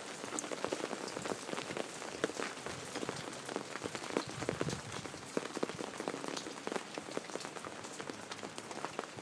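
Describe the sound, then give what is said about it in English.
Hail falling in Southern California during a thunderstorm, a dense, steady patter of countless sharp little ice impacts rattling continuously across a surface with no pause, loud and unbroken for the whole stretch, with no voices. “Whoa, that's like ice. Ice in SoCal.”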